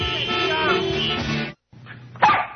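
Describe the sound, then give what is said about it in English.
A small dog yaps and whines in a drawn-out, high-pitched run, goes quiet briefly, then lets out one sharp, loud bark. “I guess I better let the dog in.”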